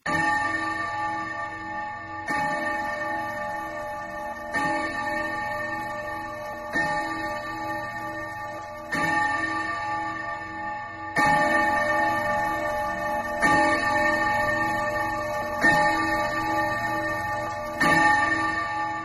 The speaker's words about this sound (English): The mouse ran up the clock. the clock struck nine.